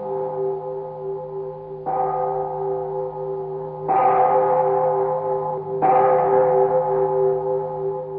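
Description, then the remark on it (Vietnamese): A temple bell rings alone in a pagoda at the foot of a mountain at dusk, struck four times at a slow, steady pace of about two seconds, each strike swelling louder over a deep, sustained hum that never fully fades. “Chợt nghe vang lên một hồi chuông.”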